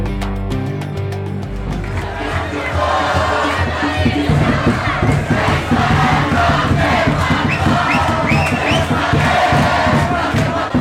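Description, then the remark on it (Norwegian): A large crowd chants and shouts loudly in unison at the Jerusalem Day celebration in Jerusalem, where Israelis mark the reunification of Jerusalem. A dense roar of many voices with rhythmic pulses and cheering, sustained throughout after a brief low rumble at the start. “Det du hørte lyden av der, det var dagen da alle diplomater I Jerusalem holder pusten, nemlig Jerusalem-dagen.”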